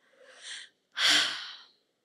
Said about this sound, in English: When I see the mountains and ranges of challenges that are to come, all I could do is take a heavy breath.